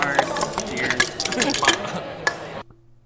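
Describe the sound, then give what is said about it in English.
Beer glasses clink together in a toast at the C2E2 comics convention, several bright ringing chinks over a busy clatter and murmur of voices, before the sound cuts off abruptly into near silence. “Cheers. Cheers. Hey. Clink, clink, clink, clink.”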